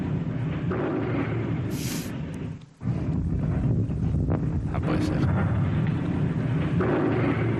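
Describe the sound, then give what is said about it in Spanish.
A tape recording of a loud, steady airplane engine drone as the plane passes over a village before dawn, rumbling continuously, heavy and low, cutting out for a moment midway before resuming, with a person briefly speaking over the noise. “Ahí se escuchan los motores. Ahí se escucha el motor del avión.”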